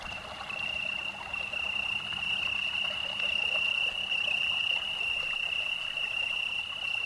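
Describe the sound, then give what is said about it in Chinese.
A steady chorus of frogs croaking by a pond, a continuous high trilling drone over soft outdoor background noise, holding even throughout with no talking. “池塘边的青蛙。”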